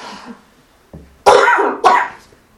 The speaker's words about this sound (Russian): А сегодня кашель.